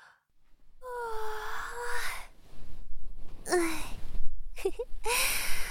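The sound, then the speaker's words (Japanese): A drawn-out voiced yawn with a breathy, wavering tone, followed by a few softer sighing breaths and short vocal exhales, heard alone without talking. “お兄ちゃんの体がまたあったかくなったから、あくびが出ちゃった。”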